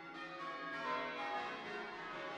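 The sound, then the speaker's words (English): Church bells of St Dunstan's church ringing in a steady, overlapping wash of resonant tones that hang and blend together, fairly loud and continuous throughout, with no voices. “And he said to me, "Are you here to ring the bells?"”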